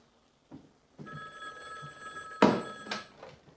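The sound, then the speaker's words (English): An old-fashioned black telephone on a little table by a red chair rings in one long, continuous metallic trill, loud, after a couple of soft knocks at the start; the call, from Pete Martell at the mill, is being transferred to it. No one speaks. “I'm going to transfer to the phone on the table by the red chair.”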